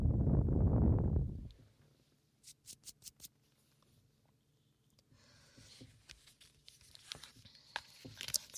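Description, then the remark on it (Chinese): After a soft muffled thump, a few quick crisp flicks of the pages of a small notebook turn in a row, then a steady scratching of writing on paper continues to the end. “像翻书写字的声音，也不用说了，这是个小本子。”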